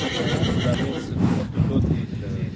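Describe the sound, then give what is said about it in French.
A carriage horse whinnies loudly, a shaky, drawn-out neigh filling a couple of seconds, with faint hoof clopping and some background murmur underneath. “faire une balade en voiture hippomobile, il faut savoir que c'est un cheval qui aime beaucoup ça”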